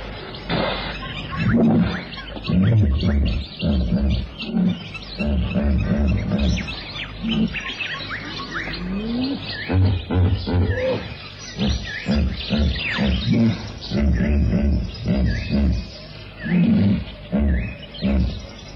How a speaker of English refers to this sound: And in the water, rising indignantly to survey the scene with two enormous saucer-like eyes, the snorting hippo.